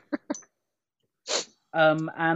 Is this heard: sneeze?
yes